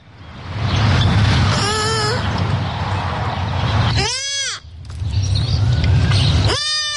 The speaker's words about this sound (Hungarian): A Főben lapulva hívja anyukáját egy újszülött őzgida. A jelenség gyakorinak számít az őzek március végétől június közepéig tartó ellési időszakában, ami egybeesik a gépesített mezőgazdasági kaszálások kezdetével.